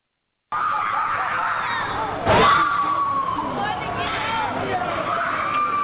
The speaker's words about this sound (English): Screams fill the evening sky as family members try to cope with what happened in the South Memphis community. Two children, ages 2 and 3, left home alone shortly before a fire broke out.